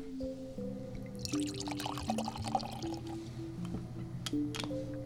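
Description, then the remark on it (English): Cider pours into a glass on Vashon Island, a steady gurgling stream with fizzy, bubbly splashes, over a low hum with a few faint clinks near the end. “So could I hit you up to taste a little cider?”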